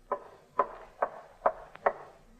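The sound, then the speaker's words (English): Rapping on the top of a piano to mimic someone walking upstairs: five evenly spaced hollow knocks on a wooden surface, about half a second apart, fairly loud, with no voices. “Yesterday, the sound of walking upstairs was made by rapping on the top of the piano like this.”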